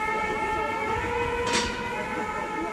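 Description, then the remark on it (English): Fire engine and ambulance sirens drone in a loud, steady, high-pitched wail over a noisy street background, broken by a brief hissing burst midway. “You saw the firemen arrive, ambulances with people who are completely red, unconscious, very dehydrated, others that had cardiac arrests.”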